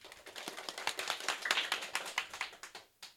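A round of applause from a small group, a quick, steady patter of claps filling a few seconds before tapering off to a final clap or two.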